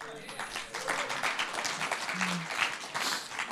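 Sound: half-hearted round of applause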